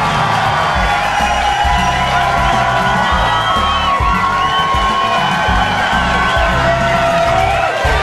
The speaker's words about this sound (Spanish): Ese pelirrojo que está por ahí, él siempre, él grita igual. Su grito es igual, siempre.